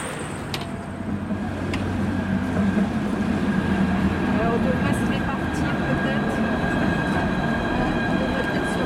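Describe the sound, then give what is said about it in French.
A tram at a station platform in Brest hums and rumbles, with a steady electric whine and rolling rail noise that swells slightly after the first second and holds, faint voices murmuring underneath. “Nous revenons à Brest, mais cette fois, nous nous arrêtons sur le quai pour prendre le tramway.”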